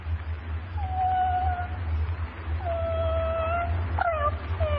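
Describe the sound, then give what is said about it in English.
A female animal imitator imitates a barking dog, giving a few drawn-out whining, yelping calls that rise and fall over a steady low background hum, with no speech. “And my barking dog really bites.”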